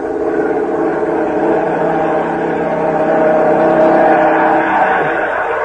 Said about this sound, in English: Listen. A German plane.